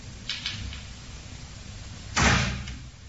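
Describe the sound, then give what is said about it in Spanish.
A door moves on its own with no draught present, a faint brushing scrape early on, then a louder bump with a short whooshing tail, against a low background hum and no voices. “se ha movido la puerta. Y aquí no hay corriente, tío.”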